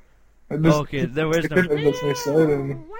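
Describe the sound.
A person vocally imitates a wailing cat-like siren: one loud, drawn-out yowl with wavering pitch that sweeps upward at the end, lasting a couple of seconds.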